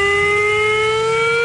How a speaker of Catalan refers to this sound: Protecció Civil ha organitzat un nou simulacre de risc químic. Començarà al migdia, durarà un quart d'hora i sonaran les 52 sirenes que hi ha a les Terres de l'Ebre i Tarragona.